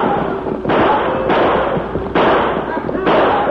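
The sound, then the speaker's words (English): Loud six-gun gunshots fired by men driving a herd of steers crack repeatedly over a continuous rumble of thunder, with four sharp bangs at roughly even intervals cutting through the dense, roaring noise. “The steers, terrified by the thunder and the belching six guns of the men, began to run faster and faster.”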